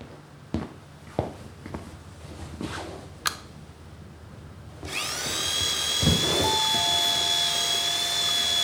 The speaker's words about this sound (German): So. Hier über deinen Schreibtisch passt es wirklich gut. Misst du die Höhe? Ich hol die Bohrmaschine.